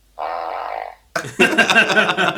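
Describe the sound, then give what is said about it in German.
A buzzy, drawn-out fart sound effect plays from a soundboard machine for nearly a second, followed after a brief gap by a louder, rougher, sputtering burst. Both are clear, with no talking. “Es kommt aber alles nur aus dieser Maschine natürlich.”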